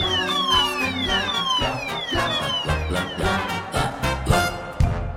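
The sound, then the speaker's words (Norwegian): A loud fire alarm wails continuously, its tone sweeping downward again and again in quick repeating cycles, dominant throughout with no voices over it. “Den var veldig bra, den brannalarmen.”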